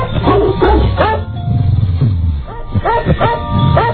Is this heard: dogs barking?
yes